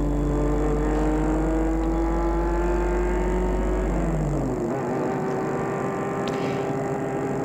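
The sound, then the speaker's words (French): A car engine hums steadily, then its pitch drops and the deep rumble cuts out about midway as the car pulls up and stops in front of a grey four-storey building on a narrow street in Montparnasse, leaving a quieter idle afterward. “Il va arrêter sa voiture devant un de ces immeubles gris et tristes de 4 étages.”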